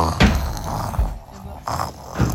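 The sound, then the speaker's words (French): A voice imitates a wolf snoring very loudly, with several rough, rumbling snores repeating in a slow rhythm, fairly loud, with short pauses between them. “Rassasié, le loup s'endormit et se mit à ronfler très fort.”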